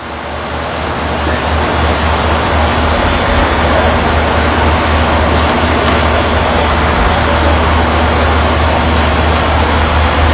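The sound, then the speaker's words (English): A train rumbles past from right to left, a loud, steady roar of engine and rolling wheels holding for the whole stretch with no break and no voices over it. “there's that train I mentioned. It's coming from our right to our left.”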